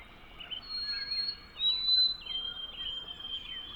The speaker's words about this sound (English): A couple of days later, on a nice sunny morning, I hear another interloper, a white-throated sparrow, giving clear, wavering whistles. How sweet.